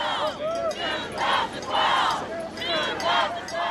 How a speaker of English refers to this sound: The McCain-Palin campaign jet made one final landing in Anchorage last night. And as the governor's family emerged onto the freezing tarmac, supporters greeted them with a new cheer.